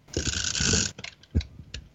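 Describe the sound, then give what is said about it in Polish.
The advance lever of a film camera that takes 12 frames per roll is wound in one sweeping ratcheting stroke lasting nearly a second, followed by a few softer mechanical clicks as it springs back, clear with no talking. “Zresztą, wiesz co, ja mam akurat przed sobą aparat, coś ci pokażę, dobra? Posłuchaj, naciągam kliszę.”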